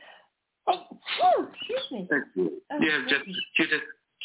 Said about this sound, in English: I'm going to sneeze, hold on. Bless you.